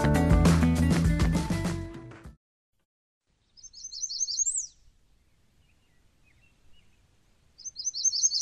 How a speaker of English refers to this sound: That's an American Red Start, which will leave the Granite State this week for its southern journey to Central and South America.